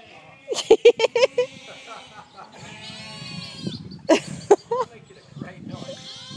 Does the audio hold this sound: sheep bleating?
yes